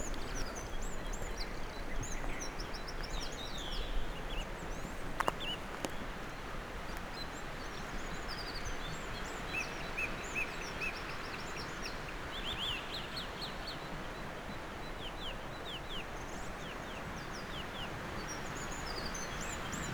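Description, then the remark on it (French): A continuous chorus of birds chirping and calling at sunrise in the early morning, with overlapping tweets over a steady outdoor background hum, and no one speaking. “Le chant des oiseaux, le lever du soleil.”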